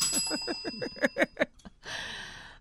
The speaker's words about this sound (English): Don't you have your bell? Ring your bell